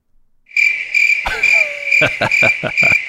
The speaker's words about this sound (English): Can I get the crickets again, please?